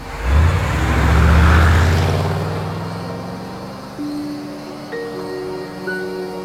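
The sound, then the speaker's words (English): A car engine revs up and pulls away as the car drives off at night in the moonlight, its rumble swelling then fading, leaving faint steady tones and quiet outdoor ambience. “I get out of the car. She blows a kiss, shifts into the driving seat, and drives off.”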